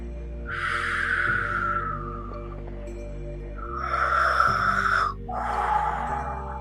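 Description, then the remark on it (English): Birds call in three drawn-out, slightly raspy bursts, clear, over a soft, steady ambient drone with no one speaking. “You hear the songs of the birds and an occasional bark of a dog far, far in the distance.”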